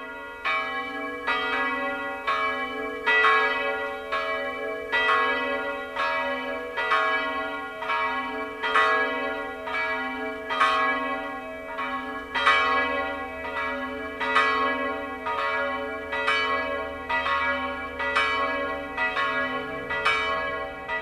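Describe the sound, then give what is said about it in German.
The two church bells of the Allerheiligen pilgrimage church near Warngau, Upper Bavaria, Germany, ring the 12 o'clock midday chime together in a steady, overlapping peal, each strike blooming into a long humming resonance. The chime is loud and continuous, with no voices present. “Das Mittagsläuten kommt heute aus der Filial- und Wallfahrtskirche Allerheiligen bei Warngau in Oberbayern.”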